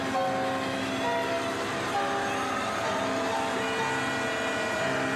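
A helicopter rises with a man in a military helmet dangling from it: a loud, continuous roar with a droning engine whine and a low, rapid rotor chop underneath, the tones shifting slightly as it lifts.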